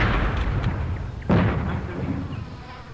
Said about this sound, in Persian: ظاهراً دشمن از بالای تپه منو دیده بود و یه خمپاره شست طرف من پرتاب کرده بود. خمپاره توی فاصله 10-20 متری من منفجر شد.